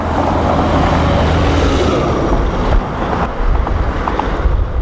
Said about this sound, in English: The steady roar of thousands of cars overhead is what animals hear night and day.